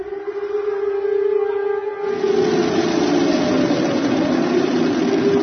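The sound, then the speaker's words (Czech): An air raid warning siren in Belgrade, signalling air danger during the NATO air strikes of March 1999, holds a steady, sustained tone, joined after about two seconds by a loud, broad rumbling roar like a heavy engine that continues to the end. No one speaks. “Situacija je, kao što čujete, znak je dat, vazdušna opasnost za Beograd.”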